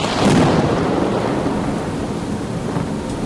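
A thunderstorm at sea while passing Singapore at 5 a.m. under a grey-violet sky: a deep roll of thunder swells early, then fades into a steady, dense hiss of heavy rain that continues loudly to the end. No voices.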